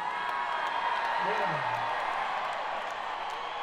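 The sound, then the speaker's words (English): A large audience cheers and screams together for the 1960s in a steady, dense roar that holds at full volume for a few seconds, with scattered shouts and whoops rising out of the noise. “Let's cheer decades. How about the 50s? 70s?”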